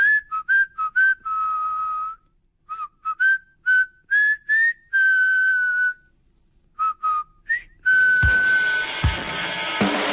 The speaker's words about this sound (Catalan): en … es va posar a xiular